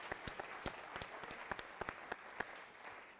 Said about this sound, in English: Hallelujah. We also going to give a clap offering